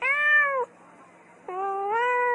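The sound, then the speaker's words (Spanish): Two loud cat meows separated by a brief pause, the second one longer and drawn out, with no talking around them. “El turpial decidió acercarse más y se paró en una rama de un árbol para fijarse en lo que decían los perros a un gato que pasaba por allí.”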